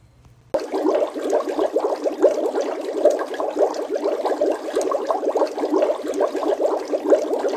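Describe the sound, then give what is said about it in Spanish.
A washing machine runs steadily, its churning slosh of water forming a dense, continuous rumble with quick rippling fluctuations, beginning abruptly after a brief quiet moment and holding at an even level. “¡La lavadora!”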